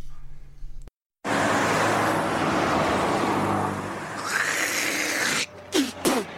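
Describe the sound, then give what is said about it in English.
Steady roar of cars rushing past on a busy road, loud, broken by a brief pause before the traffic swells again, with a few sharp chirps near the end. “do you ever think about the people in those cars?”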